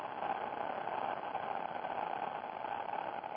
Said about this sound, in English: Now, we're going to do it in and out through the mouth, like twice. So breathing in, making that sound.